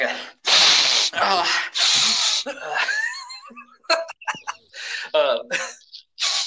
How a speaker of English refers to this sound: and give it a good sniff.